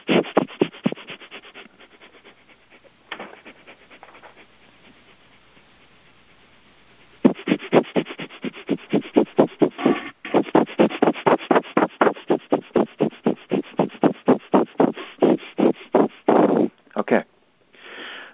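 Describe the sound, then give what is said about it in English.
Rapid, forceful breathing in and out through the nose like a dog, done as a breathing exercise. Soft and uneven at first, it becomes a loud, steady, fast rhythm of sharp sniffing breaths for about ten seconds, then stops. “Like a dog. So we're going for 15 seconds. Here we go, through the nose, quickly.”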